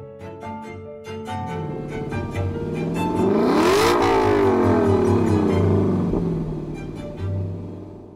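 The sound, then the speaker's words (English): An LC sports car engine revs up, its stacked harmonic tones, in octave and fifth intervals, sweeping upward together as the pitch climbs, peaking in a loud roar before easing back down with a brief final blip. “I can only imagine how satisfying it would be to be in a car that as it revs up and gets faster is making these perfectly pleasing intervals that everyone wants to listen to.”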